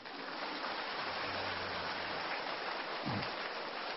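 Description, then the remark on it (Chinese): A crowd at a Buddhist dharma talk applauds in a dense, steady wash of clapping that holds at an even, fairly loud level for the whole stretch, with no clear break or fade. “拿了照片嘛，就不要再鼓掌了。”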